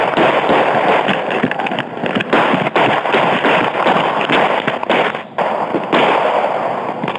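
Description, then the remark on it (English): A police officer fires twelve gunshots, sharp cracks following one another in quick succession over a dense, noisy wash of sound, with no voices heard. “One of the officers fires 12 shots.”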